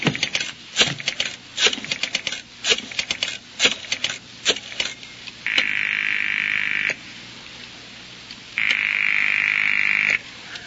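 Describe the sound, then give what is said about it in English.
A telephone rings unanswered, two long, steady, buzzing rings separated by a pause, after a stretch of sharp, irregular clicking and tapping. No one speaks. “I'll bet you that's the only phone in the whole city that's ringing.”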